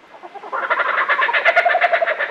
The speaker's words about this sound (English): I bet you've heard this sound before, maybe on the soundtrack of a movie. It's a bird voice so distinctive, it's become one of the best-known sounds in nature. This oddly familiar, crazed laughter belongs to the laughing kookaburra of Australia.